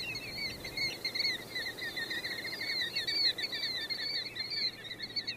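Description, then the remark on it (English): A flock of golden plovers calls continuously in overlapping, warbling whistles, layered over a steady low roar of gas well engines. “The birds keep up an exciting caroling with background accompaniment of gas well engines roaring and boom, boom of artillery practice at Fort Chaffee across the river.”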